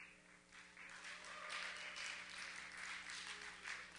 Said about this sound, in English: I didn't really intend for you to clap for that.